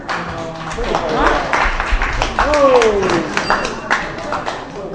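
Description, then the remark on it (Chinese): Audience applause at a Chinese crosstalk (xiangsheng) show: a steady, dense wash of clapping runs through the whole stretch while a man speaks over it, his voice rising clearly above the crowd. “谢谢您的掌声。”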